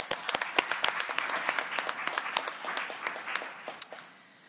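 A crowd breaks into applause, many hands clapping in a dense, steady patter that holds for several seconds before tapering off at the end. It sounds moderately loud, as if from a room full of people.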